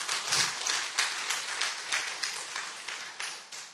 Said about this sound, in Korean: 저는 생각을 안 하고 있었는데 남전도의 연합, 뭐 시니어, 일남, 이남 이분들이 연합을 해서 다음 주에 창립 주일 특송을 하시겠다는 거예요. 박수 한번 하시죠.